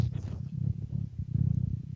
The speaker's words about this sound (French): C'est quoi ce bruit horrible? Quelqu'un a faim? Un chat.